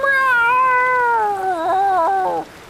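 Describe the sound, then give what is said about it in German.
A single loud, drawn-out meow from a tomcat calling as loud as he can, lasting over two seconds, its pitch sliding slowly downward and wavering near the end before stopping abruptly. Clear, with no talking. “»Miau, miau«, maunzte er auch, so laut er konnte.”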